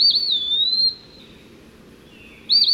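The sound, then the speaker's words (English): An eastern wood-pewee whistles its slurred, plaintive pee-wee song: two clear, sweet phrases separated by a pause, over a soft, steady background hiss. “The eastern peewee has a catchy tune, too.”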